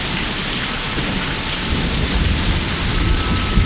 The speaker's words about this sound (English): I'm getting rain man.